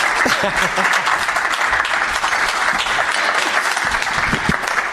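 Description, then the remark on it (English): A large audience applauds to welcome comedian W. Kamau Bell, many hands clapping in a dense, continuous wash of noise with a few louder claps and faint voices underneath, holding an even level throughout. “Wow, that's gonna sound like a full room when it's on recording.”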